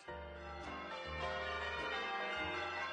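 Church bells of Holy Rosary Church in Vancouver ring out steadily and loudly, their overlapping tones blending into a sustained, resonant wash with a few fresh strikes sounding roughly every second, with no voices present.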